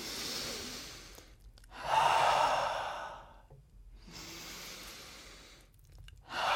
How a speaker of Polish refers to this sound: Tak, jakie mamy jeszcze też, ćwiczenie? Uwaga, głębokie oddychanie. 3, 4.